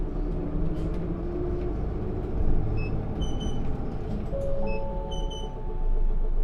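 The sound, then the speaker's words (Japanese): A bus bound for Misakiguchi Station rumbles steadily as it departs from a stop, rising slightly as it pulls away, with faint high electronic tones and rattles over the low, continuous drone of the motor. “お待たせしました。発車いたします。”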